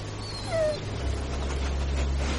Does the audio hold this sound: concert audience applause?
no